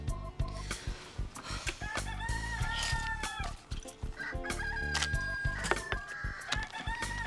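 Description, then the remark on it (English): A loud, busy flock of chickens, with roosters crowing and hens clucking over one another in a steady, overlapping racket that never lets up, with no one talking. “Hi, this is your neighbor who complained about the chickens.”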